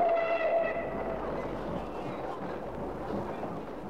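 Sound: steam train with whistle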